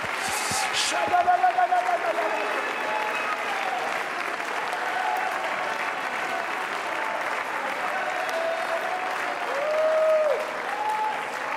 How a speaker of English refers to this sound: Oh, everybody all across the sanctuary, clap your hands. Oh, hallelujah.